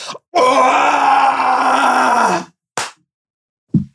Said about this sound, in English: That's how I felt though. Literally. It was more of a grunty scream.